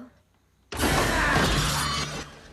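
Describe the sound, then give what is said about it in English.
A sudden loud smash bursts in after a quiet moment as a plant pot is hurled down on a staircase landing, a broad crash with scattering, crunching debris that rings on for over a second before fading. “Reaching the landing, Cece hurls a plant in its path, then flees.”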